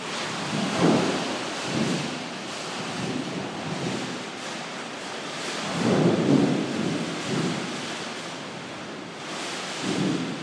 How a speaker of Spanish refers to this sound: Y así suena el portal de casa, lo que es la cúpula de plástico, de material, no es cristal, siendo atacada por estos furibundos vientos que tenemos hoy.